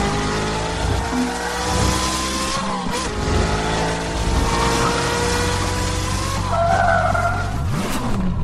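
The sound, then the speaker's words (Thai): A powerful Koenigsegg One supercar engine of 1,400 horsepower roars and revs continuously while tires screech and skid, loud, with rising and falling engine pitch and sustained squealing across the whole stretch. “Koenigsegg บริษัทรถยนต์ดาวรุ่งจากสวีเดนซึ่งเป็นเจ้าของรถซูเปอร์คาร์ที่มีความแรงที่สุดในโลกในเวลานี้คือ Koenigsegg 1ที่มีกำลังเครื่องยนต์ 1,400แรงมาครับ”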